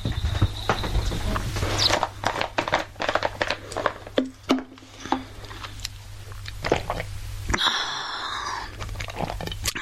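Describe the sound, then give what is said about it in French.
Wet gulping and swallowing sounds repeat irregularly over a low steady hum, with small mouth clicks and squelches between the gulps. No one speaks. “Tu veux m'entendre boire ?”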